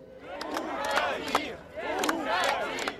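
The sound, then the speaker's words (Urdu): A crowd of protesters chants the Urdu slogan 'give up power' in unison, loud rhythmic group shouting with repeated phrases rising and falling in waves, with no individual voices standing out. “مظاہرین نعرے بلند کر رہے ہیں, اقتدار چھوڑ دو, اقتدار چھوڑ دو.”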